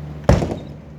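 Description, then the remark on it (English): An unlocked back door is opened with a sudden heavy clunk, followed by a brief softer rattle as it swings, then quiet with a faint steady hum underneath. “Okay, well, that answers my question. Left the door unlocked.”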